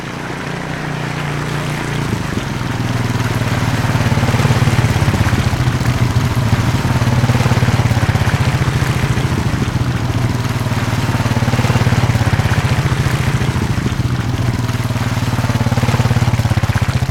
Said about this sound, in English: I hear quads. We got to get out of here.